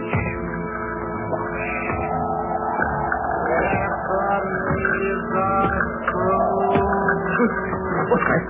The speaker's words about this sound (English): What was that noise deep down below in the cellar, as if somebody were dragging a heavy chain?